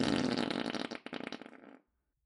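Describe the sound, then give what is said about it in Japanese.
A single long, buzzy fart rasps for nearly two seconds, breaking into a sputtering flutter before it cuts off into silence. No voices. “どうしておなら以下の声量しか出せないのかな。”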